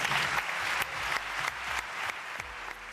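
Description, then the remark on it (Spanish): Thunderous applause from a large audience at the Kursaal, an ovation for director David Cronenberg on receiving the Donostia award; a dense steady roar of clapping with sharp individual claps standing out, sustained and loud throughout with no voices. “Atronadora ovación en el Kursaal, con la que el director estadounidense se mostró emocionado y agradecido.”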